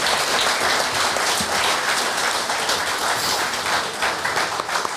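A crowd applauds steadily for about five seconds, a dense, even wash of many hands clapping at a fairly loud level with no clear individual claps standing out.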